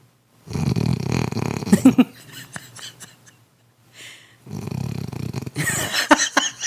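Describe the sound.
A person imitates a dog's snoring with two loud, rasping snore sounds separated by a short pause, each ending in snorting clicks and breathy scrapes.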